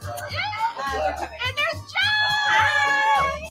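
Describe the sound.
Women shriek and squeal in high, excited voices in a TV clip being played, overlapping and rising into a sustained, loud burst of shrieking over about three seconds, with a low hum underneath.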